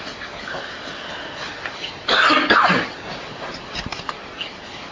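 A man with a cough, his throat dried out from talking, lets out a harsh cough about midway, one rough fit lasting under a second, followed by a few small throaty sounds against a quiet background.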